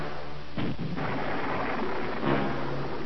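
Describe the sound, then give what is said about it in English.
Heavy explosions at a construction dock rumble through a continuous low roar, approaching in sequence, with two sharper blasts standing out about two seconds apart, like a rolling barrage of artillery. “The construction dock's roiling explosions approaching in sequence shook the Hound's frame, the metal of its hull grating against the rubble-strewn area on which it had crashed.”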